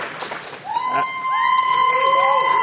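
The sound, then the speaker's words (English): The Fudge Factor audience cheers for the game Super Metroid, building from scattered voices into a sustained, loud roar with overlapping high whoops and long rising yells. “Fudge Factor, who just loves Super Metroid the most? Like, really make those voices heard.”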